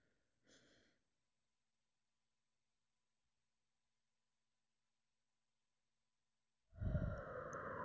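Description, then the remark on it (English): A short, soft breath in, several seconds of silence, then a loud, breathy exhale that rushes on to the end. No one speaks. “Deep breathing.”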